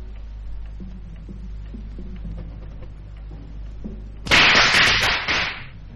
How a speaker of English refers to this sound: Firecrackers? They're banned in Hong Kong. Must be some Chinese here.